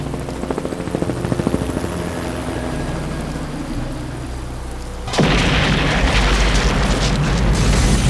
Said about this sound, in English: Anya watched the flash as it reflected across the waves that broke before them. The helicopter disintegrated distressingly high over their heads, but luckily missed them with its debris.